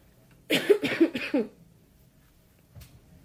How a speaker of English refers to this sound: excuse me, I'm just going to cough.